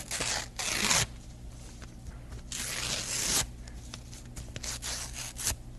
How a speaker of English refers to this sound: Nothing like tearing up a canceled note to give a man ease of mind.